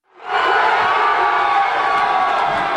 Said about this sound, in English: New York Yankees fans roared their approval in Times Square last night after the Yankees defeated the Philadelphia Phillies in Game 6 of the World Series and clinched the title.